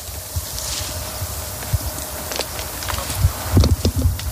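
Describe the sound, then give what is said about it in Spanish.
Several members of a search team walk over a sandy path by the Barbarán irrigation ditch in Alcudia, Valencia province, Spain, searching for a person missing since the DANA floods. Their crunching footsteps are irregular, growing louder and more frequent near the end over a steady outdoor hiss. “Esto que escuchas son las pisadas del operativo que a esta hora sigue buscando delante de mí a una de las dos personas que continúan desaparecidas por La Dana.”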